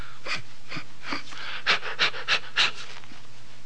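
A person breathes heavily and theatrically, about eight rapid, rhythmic huffs, the later gasps louder and harsher, with no talking.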